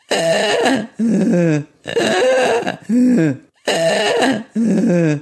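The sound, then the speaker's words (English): A person imitates a 23-year-old cat snoring: three rounds of raspy, droning in-and-out snorts, each pair loud and throaty, repeated at a steady, rhythmic pace with brief pauses between. “I had a 23-year-old cat who you could certainly hear snoring.”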